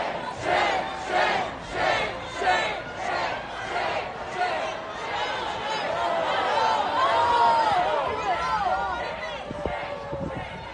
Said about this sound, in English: Those are Minneapolis protesters yelling shame, shame at Mayor Jacob Frey.